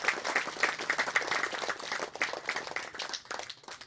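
A crowd applauds steadily in tribute to the late Don Juan Zamora of Cerro de Oro, with dense overlapping claps at a fairly even level, easing slightly toward the end.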